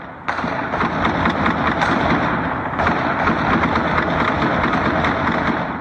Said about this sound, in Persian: صابر عزیز، خبرنگار افغان، با پخش یک ویدیو از طریق فیسبوک ادعا کرده که شام جمعه این تیراندازی برای 20 دقیقه در منطقه خوشحالخان مینه در کابل ادامه داشت.